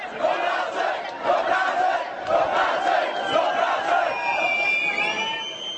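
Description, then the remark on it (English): Hundreds of people at a rally march through the northern Bohemian town of Rumburk, chanting slogans such as "Get a job" and "Czechs and Czechs" in unison, their massed voices rising and falling in a steady, repeated rhythm. A sharper, higher shout cuts through near the end. “Hundreds of people shouting "Get a job" and "Czechs and Czechs" and other slogans as they marched on Friday through parts of the northern Bohemian town of Rumburk, mostly inhabited by Romanis.”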